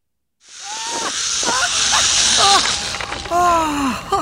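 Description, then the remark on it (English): A zip wire whirs with a loud, steady hissing rush that starts abruptly and carries on throughout, while voices whoop and call out over it. “I didn't know zip wiring was so cool.”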